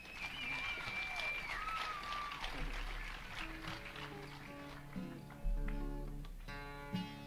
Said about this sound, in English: He's one of the finest youngest guitar pickers around. He's from White Spring, Florida. Y'all give a big hand of applause for Mr. …. How about it?